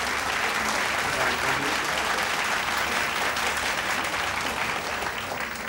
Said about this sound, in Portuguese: Os alunos o aplaudem.